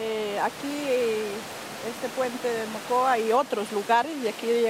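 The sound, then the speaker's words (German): The torrential Rio Mocoa in the town of Villagarzón rushes steadily in the background, a constant broad roar of water that never lets up, while a person speaks over it. “Dahinter rauscht der reißende Rio Mocoa.”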